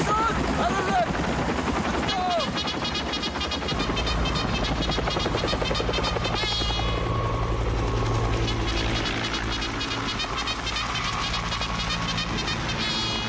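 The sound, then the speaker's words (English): Loud, steady thumping of the rotors of dark Huey helicopters sweeping out over water and swarming over palm trees at sunrise, the heavy chopping beat sustained throughout with a dense roar of engines and sharp rattling bursts mixed in. “The choppers sweep out over the water above the bugler, who stands alone in a Yankee Stetson and neckerchief.”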